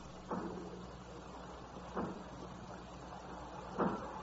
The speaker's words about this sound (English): I hear it. It's from the factory. Aye. As if they were breaking down the doors. Aye. Yes, that's what they're doing.